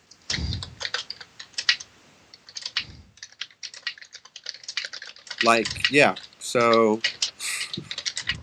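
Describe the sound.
Rapid keyboard typing clatters steadily throughout, quick irregular key clicks up close, with a man's voice briefly speaking over the tapping near the end.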